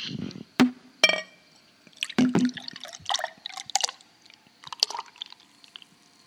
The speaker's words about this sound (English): There you go. Look at that nice pour.